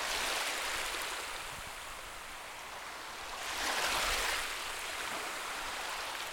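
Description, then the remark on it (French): Gentle waves of the Mediterranean Sea near Monte-Carlo at dusk, heard from a balcony, wash steadily with a soft hiss, one swell rising and breaking midway before settling back into a continuous murmur. No voices are heard. “Face à la Méditerranée, sur ce balcon où j'étais venu tant de fois m'accouder, espérant trouver dans le doux mouvement des vagues l'inspiration d'un récit attachant, je me sentis bien, tout à fait bien.”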